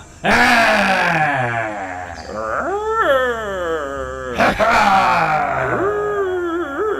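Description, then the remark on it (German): Voices roar loudly in long, drawn-out bellows while massaging someone's muscles to wake him up, sliding in pitch, with a brief lull midway before a second loud burst of roaring. “Und am besten brüllen wir recht laut dazu.”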